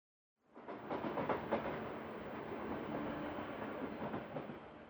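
Steady rumble and rattling clatter inside a moving train carriage, starting abruptly and continuing at a constant level with faint rhythmic clicks, no voices.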